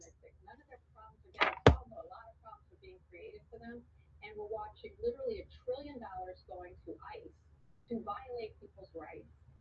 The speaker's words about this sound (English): You're listening to the noise from the Bet TV. Pay that no mind.